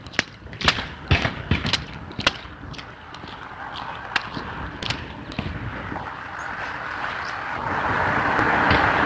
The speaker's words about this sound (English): This is a stream running down the side of the road from the guys where they're sprinkling back up there. And yes, I'm splashing it like a 12-year-old. Like a 5-year-old.